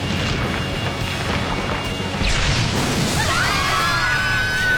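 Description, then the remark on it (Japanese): A big explosion roars through, a dense rumbling blast that surges louder partway in, with swishing debris and a thin high ringing tone trailing toward the end. No voices. “爆発するなら教えてくれ。”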